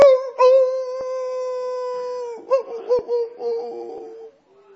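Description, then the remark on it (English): A wolf howls in answer to its pack in a long, steady note that holds its pitch for a couple of seconds, then breaks into short wavering yips before trailing off. No one speaks. “One over there.”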